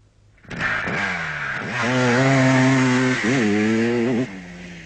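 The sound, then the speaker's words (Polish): A Jawa motocross motorcycle engine buzzes loudly, revving up several times with rising and dipping whines before settling into a steady high drone; no one speaks. “ale polski tytuł z Wilhelmim, który jeździł razem z bratem czy z kolegą na motocyklach krosowych. Maszynka w porządku.”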